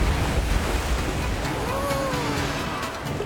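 A steady wash of ocean surf fills the whole moment, a constant rushing roar with no voices, and a faint, brief whistling tone drifting through the middle.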